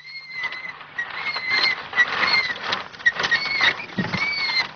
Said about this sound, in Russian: Далеко слышен жалобный скрип трехколесного велосипедика